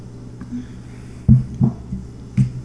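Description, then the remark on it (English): Someone drinks a quick glass of water: three or four soft, low gulps spaced unevenly over a couple of seconds, with a faint steady hum underneath and no talking. “I'm just gonna have a quick glass of water.”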